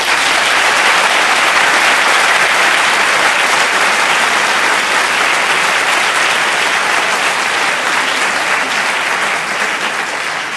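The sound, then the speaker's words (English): Sustained, loud applause from a large audience at the end of a debate, for all six debaters: dense, steady clapping with no individual claps standing out, holding at a constant level for about ten seconds before easing slightly. “Well, we're done, but for your part, but this was a really terrific debate, and I want to just, for all six, this isn't just Arts Applause now, for all six.”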